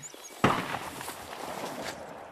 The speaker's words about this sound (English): He freezes at the gun's report, then hurries on through the woods, carrying his antenna.